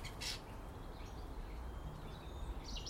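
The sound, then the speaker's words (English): Birdsong from a dawn chorus: scattered high chirps and calls, a brief burst at the start and more toward the end, faint over a steady low background hiss. “It's lovely to hear a dawn chorus.”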